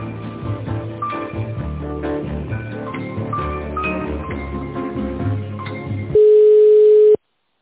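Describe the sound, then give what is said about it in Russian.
Tinny, compressed hold music plays for about six seconds while a phone call is being transferred, then cuts to a loud, steady mid-pitched telephone line tone held for about a second before silence. “Вы знаете, да, сейчас я вас переведу.”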